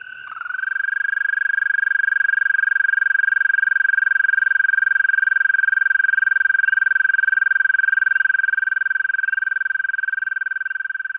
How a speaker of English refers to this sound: And here's our American toad.